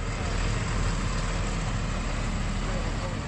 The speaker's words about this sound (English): French armored vehicles exited the base for the last time.